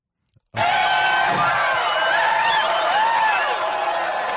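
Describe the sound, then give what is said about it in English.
A CNN audience bursts into applause abruptly after a brief moment of quiet, a dense, loud, steady wash of many hands clapping that carries on to the end, with faint voices mixed in. “Now, we did get some claps from the CNN audience.”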